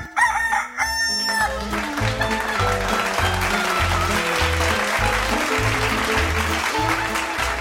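A loud rooster crow rings out for about a second, then gives way to bouncy, steadily pulsing music with a heavy bass beat. No one speaks.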